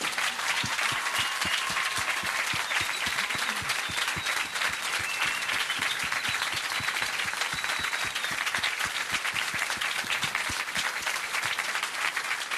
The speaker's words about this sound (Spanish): Felicidades. Un aplauso, no dejen de aplaudir.